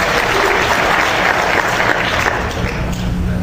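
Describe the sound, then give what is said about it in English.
Steady, loud audience applause prompted as a slide comes up, a dense wash of many hands clapping that holds at an even level for a few seconds without pause. “Is this worth a second round of applause for that one?”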